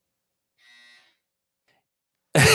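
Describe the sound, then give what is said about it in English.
A clothes dryer buzzer sounds once, a short, steady, droning tone lasting about half a second at moderate volume, followed by silence and then an abrupt burst of loud noise. “The dryer is speaking for you.”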